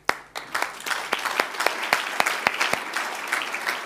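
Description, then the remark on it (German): An audience breaks into applause for a six-year-old fan who built his own version of the Volatus 2 at home, many hands clapping together in a steady dense wash with a few sharper, louder claps standing out. No one speaks. “Meine Damen und Herren, ich bitte um einen großen Applaus für den Eulenstein-Fan”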